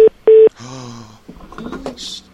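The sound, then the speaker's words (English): Two loud telephone keypad tones beep in quick succession, followed by a longer buzzing electronic tone and then clattering, rustling handling noises as someone switches to another telephone handset and picks it up. “Let me just switch to the other phone. It's right over here by me.”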